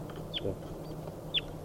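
Two short, high-pitched chirps from wild birds being recorded at 6:47, about a second apart, over a steady low background hum with faint rustling.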